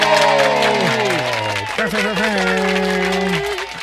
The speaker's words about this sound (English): Did you have applause when I announced what's coming in 2028? Hold on. Okay. Hold on. Yep, I'm good.